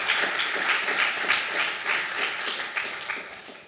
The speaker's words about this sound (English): GNOME Calendar and GNOME Photos are going to be our new core apps, so let's give a big round of applause for the maintainers of those applications.